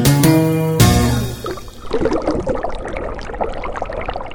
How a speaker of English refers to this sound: Recently, he's been listening to the signature tones bubbles make when they form.